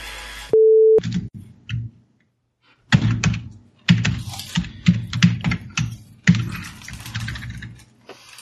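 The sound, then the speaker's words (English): Loud, heavy-handed typing on a computer keyboard, keys struck hard in uneven bursts of thudding clacks, preceded by a brief steady electronic tone and a short pause. “Using your fingers on that keyboard or a hammer?”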